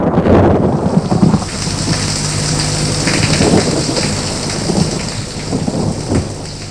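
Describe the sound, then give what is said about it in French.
A thunderstorm rages, with steady heavy rain hissing across the whole clip and deep rumbling thunder rolling underneath, swelling loud near the start. No one speaks. “Les éclairs illuminent leur visage.”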